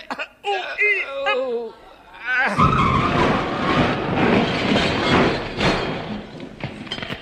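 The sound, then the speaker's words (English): A voice makes short straining grunts, then a heavy lorry loaded with scrap iron plunges into a deep smelting pit with a sudden loud, roaring crash that keeps rumbling and hissing for several seconds. “That was a lorry.”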